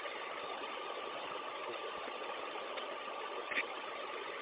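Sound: bus engine idling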